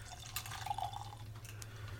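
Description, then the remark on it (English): A few small drops of water are added from a spoon into a glass of whiskey, each landing as a soft plink over a low steady hum, with no one speaking. “Shall we take a drop of water or two?”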